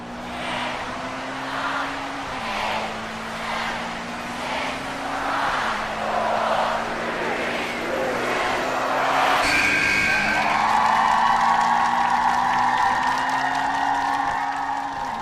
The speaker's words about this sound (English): The orange and pink cars participate in race 3.